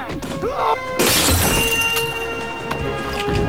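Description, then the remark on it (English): A sudden, loud crash of breaking glass as a man is kicked into a glass cabinet, bursting in about a second after a brief lead-in, followed by a ringing cascade of tinkling shards and bright resonant tones that linger to the end. “then sidekicks the second, sending him crashing into a glass cabinet.”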